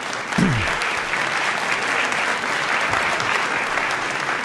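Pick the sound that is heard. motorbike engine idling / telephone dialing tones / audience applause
audience applause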